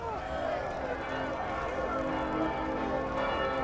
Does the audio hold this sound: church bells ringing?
yes